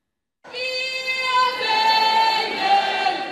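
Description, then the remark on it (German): Thousands of fans cheer in front of the town hall in Frankfurt city centre to welcome the German women's national football team (DFB) home after their European Championship win in Sweden. It is a loud, continuous roar that starts abruptly and holds steady, with shrill sustained voices and whistles riding on top. “Vor dem Rathaus in der Frankfurter Innenstadt wurde die DFB-Auswahl von tausenden jubelnden Fans empfangen.”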